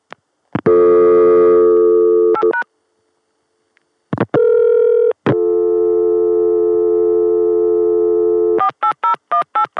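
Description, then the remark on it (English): A loud, steady Chicago telephone dial tone hums for a couple of seconds, breaks off, returns for several seconds, then gives way to a quick run of short beeping tones as 243 is dialed via 480. No voices. “243, dialed on the Chicago dial tone via 480.”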